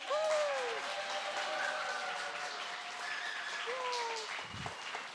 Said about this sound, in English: So let's, as I say the name, we can applaud them and just pray, like be excited for them as they come into youth group.